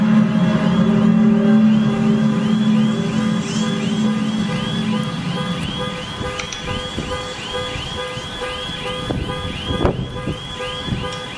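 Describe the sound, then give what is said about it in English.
In Germany, a deep, loud droning blare, called a mysterious trumpet sound, holds steady for about six seconds, then fades, while car alarms set off by the sound whoop in fast, repeating rising-and-falling cycles throughout, with a brief thump near the end. “I want you to listen. This time how the sound causes car alarms to go off.”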